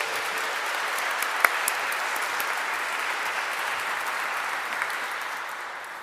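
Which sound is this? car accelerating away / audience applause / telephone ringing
audience applause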